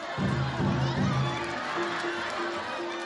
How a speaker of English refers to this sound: You'll also hear audiences during these performances yelling out, Narita ya!